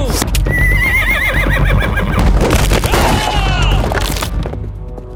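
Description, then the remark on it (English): A horse whinnies loudly and shrilly twice as it is shot and goes down, its wavering cries rising over a dense, noisy clatter of hooves and crashing as the cart it pulls breaks apart, fading slightly at the end. “When the horse went down, the cart turned to splinters in seconds.”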